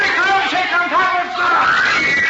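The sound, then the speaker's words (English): A crowd of kids around the stage door screams and shrieks together in a dense, high-pitched roar, with overlapping yells rising and falling steadily throughout, loud and continuous. “If he can get through those kids around the door.”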